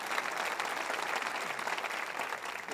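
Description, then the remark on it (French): An audience applauding God steadily, a dense wash of many hands clapping at an even, sustained level with no one speaking over it. “Voulez-vous applaudir Dieu qui dit, ne te compare pas.”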